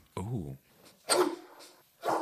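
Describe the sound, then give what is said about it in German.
A person imitates the way his own dog barks, making three loud, throaty vocal barks: a short yelp, a longer drawn-out woof, then a final bark. “Mein Hund bellt so.”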